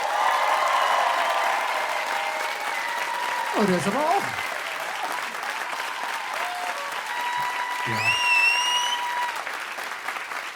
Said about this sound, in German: ein Applaus jetzt bitte.